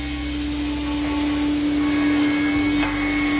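A loud industrial saw is started and runs steadily in a small workshop, cutting a plank to size, with a strong constant hum and a high whining drone, continuous, with no speech.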